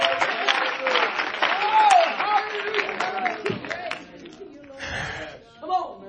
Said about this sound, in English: Well, clap your hands again. Hallelujah. We're going to have a little church here tonight.